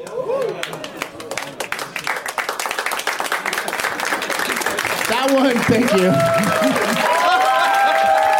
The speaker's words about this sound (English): That was like a movie slow clap. That was a golf clap that turned into just a wave. Yeah. That was authentic respect.